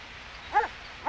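A shepherd boy's dog up on a hill barks twice, two short, evenly spaced yaps over a quiet background hiss. No one speaks.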